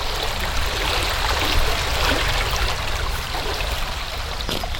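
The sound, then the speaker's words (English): Water rushes and burbles steadily close by, a broad, continuous stream flowing without pause, loud and enveloping with no voices present. “you're right beside the water”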